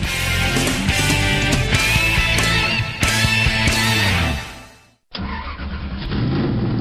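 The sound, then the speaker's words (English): A loud race car engine on a race track roars and revs in repeated surges, its pitch climbing and falling. The roar briefly cuts out before returning with a duller, more muffled tone. No one speaks. “The drivers, the cars, the sounds from the track.”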